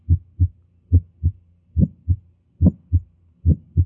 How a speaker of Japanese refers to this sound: これは、肺動脈クリック音です。